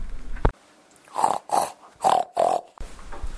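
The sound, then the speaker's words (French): A pig in its pigsty grunts and snorts four times in quick succession as it wakes up, fairly loud, with short pauses between each rough, breathy burst and no one speaking. “Le cochon qui dormait dans sa porcherie se réveilla.”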